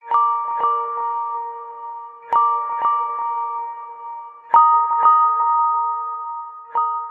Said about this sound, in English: The Pixel's small speakers make it perfect for Google's higher-pitched UI sounds, which can be heard in many of its ringtones.